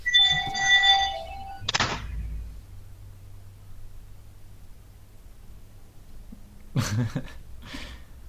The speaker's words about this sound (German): Der Wecker, das Handy oder keine Ahnung, was klingelt.